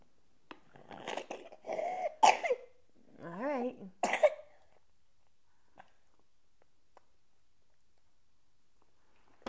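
Several harsh coughs in quick succession, broken by a short wavering vocal sound, then near silence with a few faint clicks for the rest.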